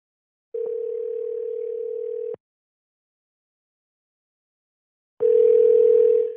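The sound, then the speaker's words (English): A telephone tone on an outgoing call: a steady, mid-pitched hum sounds for about two seconds, falls silent for roughly three, then starts again. No voices are heard. “A few months after this episode aired, I called Scott back to check in on how he's been doing and how things have been within his police department.”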